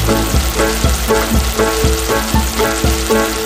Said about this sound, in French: On va commencer par faire fondre notre beurre et le saindoux à petit feu avant d'ajouter notre poireau. Voilà. Que l'on va faire suer pendant environ 30 minutes. Et attention à bien touiller régulièrement, ne vous éloignez pas trop.